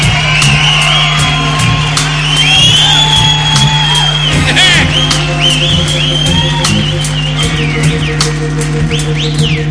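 A crowd applauds and cheers loudly for the drummer throughout, with scattered whoops and shouts rising over steady clapping and a low constant hum underneath.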